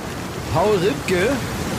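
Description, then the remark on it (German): Steady, even hiss of rain falling at a beach, continuous, with a voice briefly speaking over it midway through. “Es stehen hier nicht mal Strandkörbe. Ja, weil es halt gerade auch regnet, deswegen werden die reingeräumt.”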